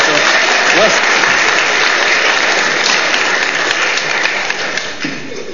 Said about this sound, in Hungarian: Köszönöm a segítséged, nagyon jól csináltad. Tapsot az úrnak.